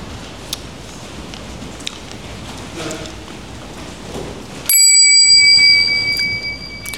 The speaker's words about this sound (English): When you hear the sound of the bell, please stop wherever you are at that moment.